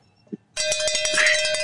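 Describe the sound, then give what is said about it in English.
A short knock, then a loud, bright cowbell clanking rapidly and steadily, its metallic ring sustained with a strong tonal hum throughout, no voices over it. “Oh, and by the way, thank you, …, for a cowbell from yesterday. I got a holdover cowbell.”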